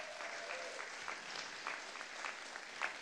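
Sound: audience clapping hands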